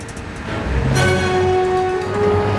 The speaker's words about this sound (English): Now the 18-wheeler drives down a two-lane highway.